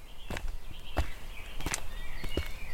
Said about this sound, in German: Wir schritten den holprigen Pfad zurück, den wir vorhin mit unserem blauen BMW hinaufgefahren waren. Zu beiden Seiten breitete sich das dicht bewaldete Gelände aus.